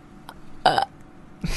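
A short, loud burp bursts out as a quiz buzzer sound, followed moments later by a second rougher, breathy burst, with no talking in between.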